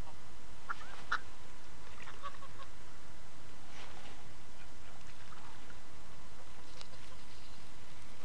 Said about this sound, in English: That was the swan. Scary! Is what? He's rattling, he's saying, what's the matter? I want some more.